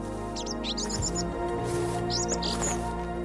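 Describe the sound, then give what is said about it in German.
Birds overhead chirp and sing in short bright bursts, several quick calls clustered early and again later, over a steady low background hum, with no one speaking; the setting is a long sunlit path lined with flowers. “Über uns ein Konzert der Vögel, die so manches Gespräch miteinander abhalten.”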